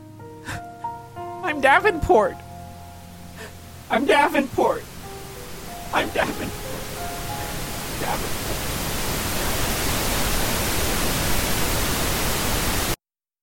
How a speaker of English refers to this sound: You're lost. Everything is just static.